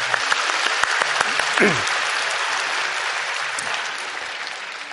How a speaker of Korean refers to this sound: 우리 결단팀 우리 축복하며 우리 박수하겠습니다.